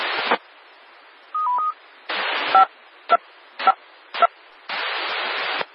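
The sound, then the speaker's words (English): Bursts of radio static broken by short two-tone DTMF beeps: one tone pair alone, then a steady sequence of quick tones riding on crackling noise bursts, each ending abruptly, fairly loud. Control tones being brought down on the WB4TQD amateur radio repeater after a Skywarn net, returning the repeater to normal amateur use. “I'll now bring down the tones and return the repeater to normal amateur.”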